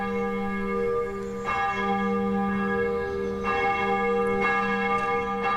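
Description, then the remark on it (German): The bells of the Dietrich-Bonhoeffer Church in Junkersdorf, in western Cologne, ring out steadily on a Sunday morning in spring, calling to the service, their rich overlapping tones sustaining continuously with fresh strikes every second or so, loud with no voices. “Die Glocken der Dietrich-Bonhoeffer Kirche rufen zum Gottesdienst.”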